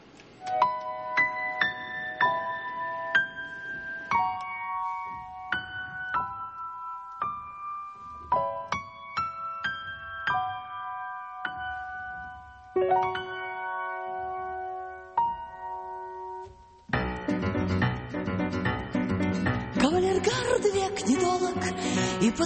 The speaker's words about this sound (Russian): я думаю, что правильно поступлю, если поставлю в ее исполнении одну из тоже известных по фильмам песен.